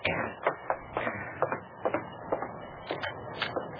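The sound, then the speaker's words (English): Steady, repeated pounding on the wooden door of a stable at midnight, roughly eight or nine firm knocks in an even rhythm, moderately loud, with no voices. “Someone was pounding on the door of the stable.”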